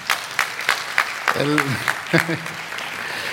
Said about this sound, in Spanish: Los que estén de acuerdo, vamos a dar un aplauso.